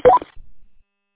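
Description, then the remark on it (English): A two-way radio roger beep: a quick burst of rising electronic tones stepping up in pitch, lasting a fraction of a second, followed by a faint low rumble and then silence. “Although you might want to turn your Roger beep off.”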